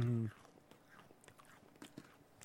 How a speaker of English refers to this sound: Two fat guys chewing on Oreos not deciding what they think about them.